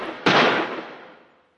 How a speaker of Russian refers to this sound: И тут они услышали звуки выстрелов, доносившиеся с луга.